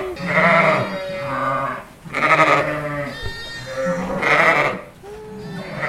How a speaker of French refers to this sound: Une petite brebis qui va naître. Regardez.